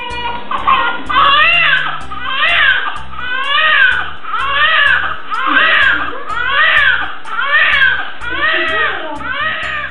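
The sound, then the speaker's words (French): A newborn baby's first cry at the moment of birth fills the whole stretch, repeated wavering wails rising and falling in pitch, loud and insistent, with short catches of breath between them and no talking. “Et au-delà du simple fait d'attendre ce moment tant attendu, d'avoir souffert avec votre femme, copine ou bien vous-même, la maman qui m'écoute actuellement, pour que finalement, on puisse entendre la délivrance, il n'y en a qu'une, c'est celle-ci.”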